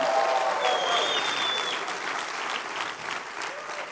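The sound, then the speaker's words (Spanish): An audience applauds steadily with scattered cheers and whoops, a dense wash of clapping that stays loud throughout and eases slightly toward the end. “Si yo fuera usted, aplaudiera y gritara un poquito y me emocionara.”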